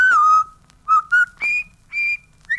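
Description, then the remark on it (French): A clear whistled melody of the River Kwai march, several short, sustained notes rising and falling in pitch, whistled alone with brief pauses between phrases. “Siffle la rivière Kouai.”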